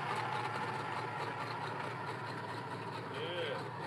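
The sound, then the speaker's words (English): A cammed 5.3-liter LS V8 engine in an S10 pickup from Bend idles steadily with a dense, rumbling drone that holds at an even loudness throughout, while faint voices murmur in the background. “It's a local to Bend LS S10 with a 5.3 in cams”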